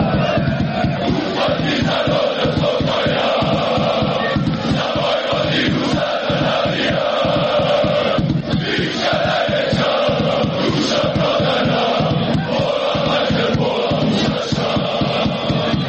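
A large crowd of Partizan football fans chants a hateful slogan in unison from the stadium stands, a loud, continuous roar of many voices with a steady rhythmic pulse and no pauses across the whole stretch.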